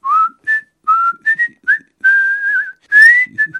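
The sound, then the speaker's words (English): Someone whistles a casual, meandering little tune: a string of short bright notes with a few longer held ones and a small warble, clear and alone with no talking. “saying that he was going to meet a friend, presumably whistling casually.”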